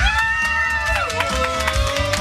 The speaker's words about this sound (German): Hier ist ein Riesenpublikum. Mal Applaus von allen. Applaus!